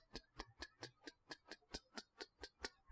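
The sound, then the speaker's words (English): A stopwatch ticks steadily, the stopwatch played on the CBS television show 60 Minutes, about four crisp, sharp clicks per second in an even rhythm, clear with no voices. “That was the stopwatch ticking.”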